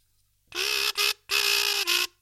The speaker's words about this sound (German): Die Kazoo.